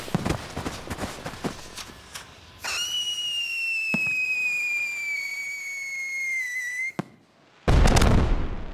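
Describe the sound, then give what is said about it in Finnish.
Fireworks crackle and pop in rapid bursts under a cloudless sky, then a rocket whistles steadily for several seconds, falls silent briefly, and bursts with a loud, rumbling boom. “Viime vuonna meni isoimmat raketit ihan hukkaan, kun nousi niin mahdottoman korkealle.”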